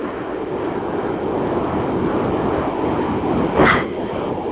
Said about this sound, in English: A lot of wind going on.